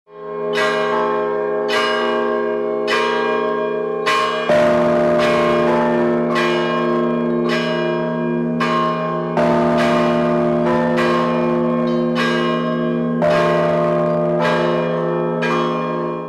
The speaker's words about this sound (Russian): по окончании окропления заиграл первый колокольный звон Владимирского храма.